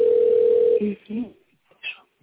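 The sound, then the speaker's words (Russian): A single steady electronic phone tone signalling a second incoming call during an ongoing phone conversation sounds loudly for under a second over a narrow telephone line, followed by brief muffled voices. “А, сейчас, секунду, а тут еще раз звонят, это не от вас звонят?”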